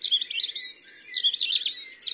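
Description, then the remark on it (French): A European robin sings a continuous run of high, thin, warbling phrases with quick trills and slides, clear, with no other sounds or voices around it. “À entendre son chant si délicat, on pourrait croire que le rouge-gorge est d'un tempérament tranquille.”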